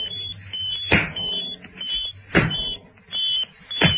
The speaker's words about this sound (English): A counter-bleep could be just heard coming from the robot. It got to its feet and headed with a shuffled tread for the lift doors.